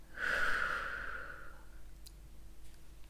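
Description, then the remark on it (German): A single deep breath in and out during a guided breathing exercise, breathy and soft, swelling then fading out over about a second and a half before near silence. “Wir atmen tief ein und aus.”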